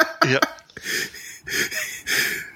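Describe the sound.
A person imitates a bear's yawn: a short, falling voiced groan followed by long, breathy, airy exhalations, moderately loud, with no words spoken.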